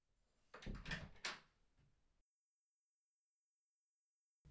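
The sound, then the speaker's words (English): A room door is opened with a short burst of creaking and rattling lasting about two seconds, followed by silence. “So could you get the door for me, please?”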